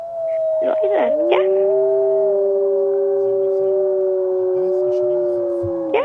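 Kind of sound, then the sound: animal, wolves howling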